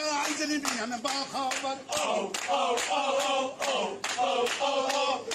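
A crowd of men and women of all ages in Iran dances and chants together in a loud, sustained singsong, clapping along to the refrain "ho, ho, ho" in a steady, regular beat, roughly once every second or so, throughout.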